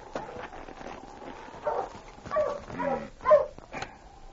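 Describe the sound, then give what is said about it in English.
A husky sled dog barks a few times in quick, uneven bursts, its yelping calls rising and falling in pitch over a faint, steady background hiss, with no talking. “Looking for you, husky. Watch him, boy.”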